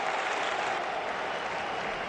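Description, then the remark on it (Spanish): Sustained applause from a large stadium crowd at El Sadar for Osasuna forward Raúl García during a match against Elche, around the 80th minute, a dense wash of clapping that stays steady and loud throughout, with no voices standing out. “Y el aplauso que escuchaban, el del Sadar, no el del maquinillo, es para Raúl García.”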